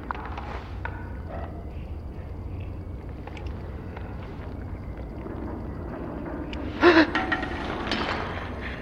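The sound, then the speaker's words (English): A person gasps, thinking a companion is about to fire: a single sharp, quick, loud gasp bursts out near the end over a steady low rumbling background like a running engine or wind. “So you gasped just in case.”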